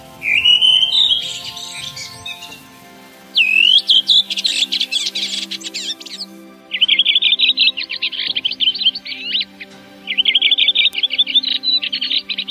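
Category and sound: bird, redwing song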